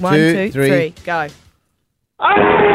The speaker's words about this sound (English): Wow, that's pretty good. Gutsy, deep, earthy kind of primal scream